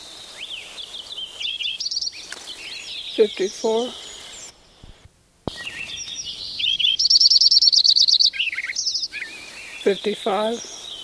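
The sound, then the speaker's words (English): A Lincoln's sparrow, bird number 7, recorded at Metcalf Creek on June 3, 1989, sings repeated bright, bubbling, high-pitched trilling phrases, one song after another with short pauses between, over a faint background of other chirps. “Both Lincoln sparrow number 6 and 7 are singing.”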